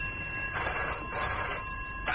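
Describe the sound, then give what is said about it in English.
A telephone rings with a steady electronic trill, two bursts of ringing heard clear against a faint background hum, with no one talking. “Now stop wrestling with my conscience and answer that phone.”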